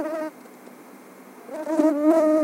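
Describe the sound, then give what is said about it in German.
A buzzing insect whines in a bedroom at night with the light off as someone tries to sleep, a wavering, harmonic hum. The tone cuts out briefly, then returns and swells louder, its pitch sliding up and down. No one speaks. “Die gute Nachricht, mit den richtigen Methoden können wir Insekten auch wieder rauskriegen aus unserer Bude.”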